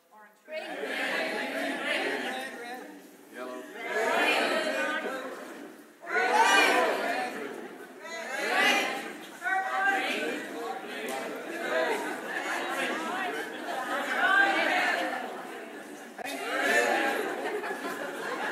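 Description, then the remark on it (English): An audience shouts out colour names all at once as a ball is held up, a loud jumble of overlapping voices rising in repeated surges every few seconds, with scattered laughter mixed in. “When he holds up a ball, you're going to shout any colour you like, as loud as you like”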